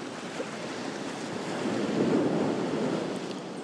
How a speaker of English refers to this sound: We're looking onto the sea now. Medium-sized wave is coming in. Lots of seagulls.